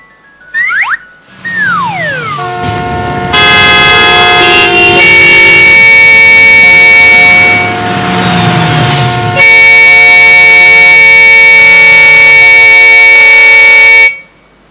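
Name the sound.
vehicle horns honking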